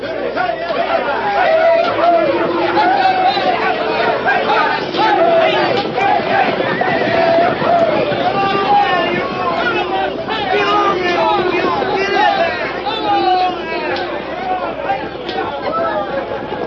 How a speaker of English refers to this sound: Thousands of frantic, yelling, riding, and wildly excited people poured across the Kansas state line and into the Cherokee Strip. They came on horseback and on foot, by wagon, buckboard, and schooner.